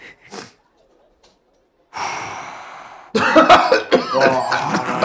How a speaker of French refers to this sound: Je contrôle pas ma toux. J'ai respiré de la poussière.